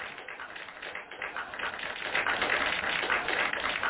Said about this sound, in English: That man did a great job, didn't he? Did he not did a great job? That man, he definitely. Give that man a round of applause, y'all. Give that man a round of applause.